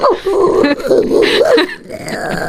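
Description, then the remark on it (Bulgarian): A person in a studio imitates an angry dog, snarling and barking in a few rough, loud bursts for about a second and a half before trailing off. “О, много разярено куче нещо се появи.”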